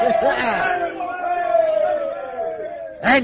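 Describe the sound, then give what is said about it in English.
A group of men cheer together in a loud, sustained roar of overlapping voices, tapering slightly before a final burst of shouting near the end. “Give a cheer, lads.”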